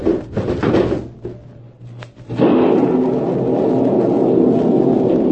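A window creaks and rattles open with a low scraping groan, then a loud, steady rush of wind and storm noise suddenly pours in and keeps roaring.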